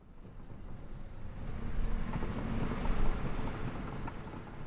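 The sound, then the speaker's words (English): A heavy garbage truck rumbles past on Farrington Highway, Oahu, carrying waste to the island's municipal landfill. Its engine and road noise are steady, while a thin high-pitched air-brake squeal rises and holds over the low roar. “Every day, trucks like this one roll down Farrington Highway, dumping waste in Oahu's only municipal landfill, Waimanalo Gulch.”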